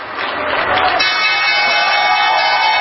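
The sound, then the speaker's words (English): A crowd cheering loudly at the ringing of the Wall Street stock exchange closing bell on a Friday, a dense steady roar of many voices and whoops sustained for about three seconds, with a bright tone joining partway through. “Those cheers at the closing bell might very well be cheers of thanks that the week is over.”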